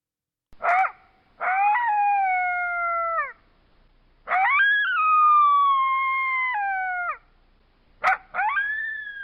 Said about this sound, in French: Par exemple, imaginez chez vous, ou dans votre voiture, le cri du coyote du désert. Allez-y. Prêt ?